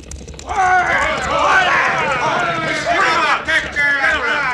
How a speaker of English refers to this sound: Oh, other hombres and horses coming, Cisco. They come from the same direction the wagons come from.